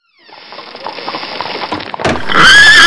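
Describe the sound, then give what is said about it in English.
A horse's hooves clop along for a couple of seconds, then the horse lets out a loud, shrill whinny that closes out the sound. “We'll be back as soon as we figure out why this horse walked into the bar.”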